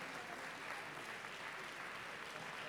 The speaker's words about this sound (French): Voilà, vous pouvez les applaudir, c'est eux qui ont fait toutes les Utopiales cette année. C'est eux qui œuvrent tous les ans.